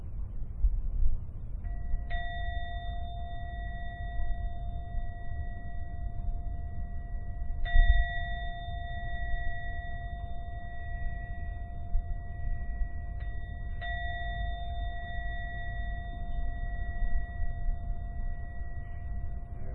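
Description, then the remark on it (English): A meditation gong is struck three times to end a meditation, several seconds apart, each clear ringing tone sustaining and slowly fading into the next over a soft low background hum. “I'm now going to ring the bell 3 times. When the last sound from the gong begins to vanish, only then open your eyes to end the meditation.”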